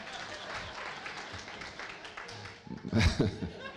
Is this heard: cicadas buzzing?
no